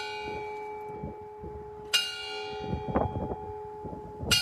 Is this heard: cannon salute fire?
no